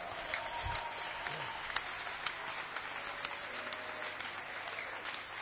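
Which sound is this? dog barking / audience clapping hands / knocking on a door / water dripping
audience clapping hands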